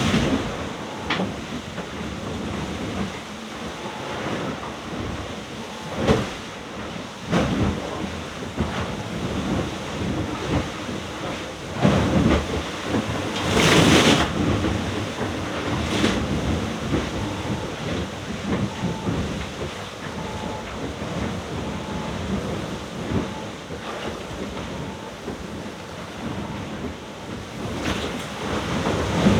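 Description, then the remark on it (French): A constant roar of rough sea and gusting wind around a sailboat alone in the middle of the ocean, with heavy wave crashes and thumps breaking through at intervals, heard from inside the boat. “C'est violent là. Je suis terré dans le bateau, j'ai trop la flemme de sortir, ça mouille à mort.”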